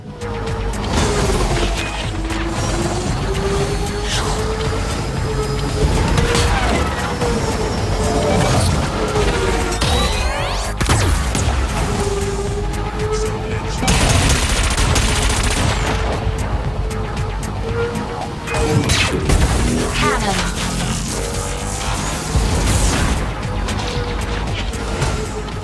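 A dense, roaring wall of futuristic racing-game sound: continuous engine-like drones with a wavering tonal whine, punctuated by crashes and bursts, loud and unbroken throughout, with no voices.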